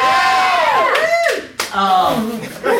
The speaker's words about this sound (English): I love that. That got applause.